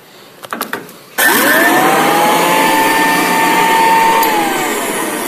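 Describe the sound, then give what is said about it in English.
A few clicks and rattles, then an antique electric vacuum cleaner in a museum, made by the Royal Company in January 1910 and still working, switches on and spins up into a loud, steady motor whine with a rising then level tone, with no talking. “One of my favorite machines in the museum was made in January of 1910 by the Royal Company.”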